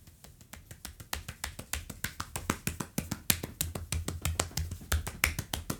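Hands pat and tap briskly over the whole body in a quick, steady stream of crisp slaps, roughly four or five per second, fairly loud, with no voices.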